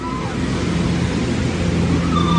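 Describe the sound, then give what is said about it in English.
A small propeller plane from Great Barrier Airlines or Fly My Sky, its muffler taken off for more power, drones steadily overhead, a continuous loud rushing roar with a low humming engine tone running through it and no voices. “I'm being interrupted by the sound of an airplane from either Great Barrier Airlines or Fly My Sky.”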